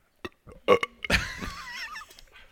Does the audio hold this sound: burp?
yes